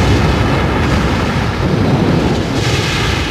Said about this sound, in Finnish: Itse asiassa 2 minuutin ajan Apollo putosi alaspäin radallaan ilmakehän rajamailla, keräsi nopeutta maan painovoimasta, kunnes 7 minuutin kohdalla tärinä ja jyrinä tulivat takaisin, kun toisen vaiheen moottorit ärähtivät käyntiin.